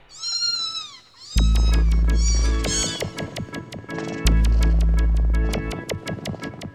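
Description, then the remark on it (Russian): A cat meows clearly on its own at the start, a drawn-out cry, before a loud, bouncy music track with a steady beat kicks in and carries on to the end. “А кто лучше всех пролезет под забором? Кошка.”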